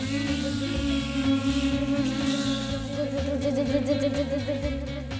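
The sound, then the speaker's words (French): A food processor whirs steadily and loudly for several seconds, its motor drone holding a constant pitch with a slight churning texture as contents spin inside. “Le bruit d'un robot mixeur.”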